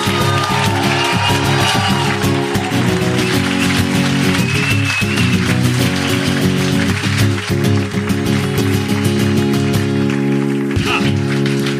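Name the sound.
audience cheering and applauding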